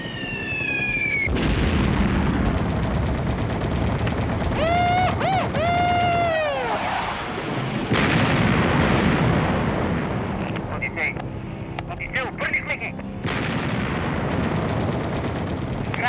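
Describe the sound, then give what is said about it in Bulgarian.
Loud, continuous rumbling blasts as explosive charges go off one after another, heavy, with a brief whistling, warbling tone rising and falling partway through. “Врубихме тил. Пускам зарядите.”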